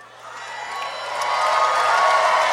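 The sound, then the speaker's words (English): A crowd breaks into dense applause and cheering for a player who has just healed a character in a tabletop role-playing game, a steady wash of clapping and whoops that swells louder over a couple of seconds and holds at full strength. “Don't applaud him doing the bare minimum, please.”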